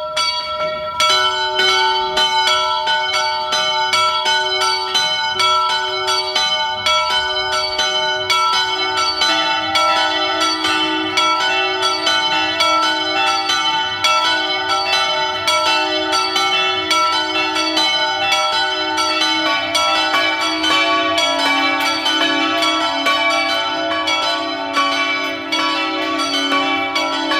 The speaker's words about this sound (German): Es ist 12 Uhr. Sie hören die Glocken der Pfarrkirche Oberhöflein, Niederösterreich.